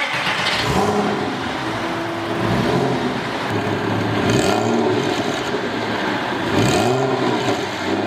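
A big petrol car engine revs hard, its growl rising and falling in several repeated bursts, loud with a steady rumble between the revs and no voices.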